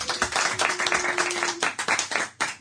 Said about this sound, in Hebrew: חלש, חלש. מה אתם לפני האוכל? מה קרה? תתנו כפיים, מה קרה?